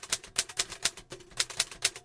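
Rapid clacking of the keys of an East German Erika typewriter, struck in quick uneven bursts of sharp, bright clicks, fairly loud, with no voices.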